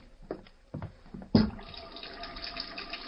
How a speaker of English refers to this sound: I'll need some hot water. Wait, there's a sink over there, Kent. Maybe I'll see.